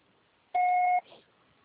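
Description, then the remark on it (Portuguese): A single steady answering-machine beep, the signal to start recording a message, a loud, flat electronic tone lasting about half a second, followed by a faint trailing murmur and quiet background hiss. “Processar será tarifado após o sinal.”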